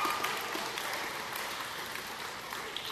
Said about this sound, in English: give a round of applause for Lindsey Vonn